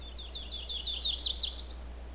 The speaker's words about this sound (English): The yellow-rumped warbler song is variable.